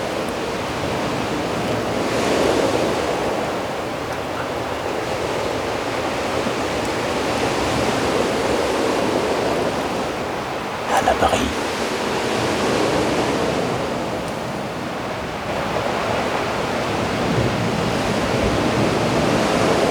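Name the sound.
wind and ocean waves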